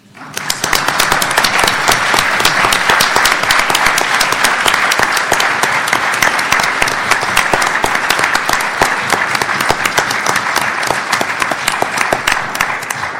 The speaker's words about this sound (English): And so I think because of his seniority and his service, we should violate the rule and applaud him now.